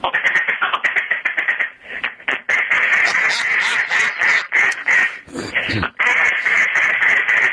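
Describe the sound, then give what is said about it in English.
A duck call blown in rapid quacking bursts, starting with a quick rhythmic series, then longer raspy, nasal calls running almost continuously, loud with no voices. “So, I mean, right now I always have duck calls in my car, and I'll practice, you know, the neighbors hate it, but this time of year I'll be on the patio.”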